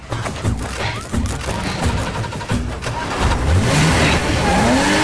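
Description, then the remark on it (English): A hotwired car's engine revs hard and climbs in pitch in a rooftop car park, with heavy thuds and crunching impacts as it rams vehicles in front and behind it, loud throughout. “He rams into vehicles in front and behind him, taking out agents crouched behind them waiting to take a shot, then is confronted by a black car coming straight towards him.”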